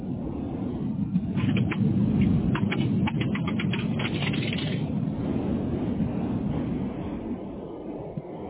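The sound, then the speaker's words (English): A car moving through a car wash: a steady low rumble with a rush of spray and brushing, and a burst of sharp slapping hits in the first half before it settles into a continuous whoosh. “I'm like, I said two things. Either car wash or it was like a tunnel that's really windy, you know, kind of underneath the tunnel.”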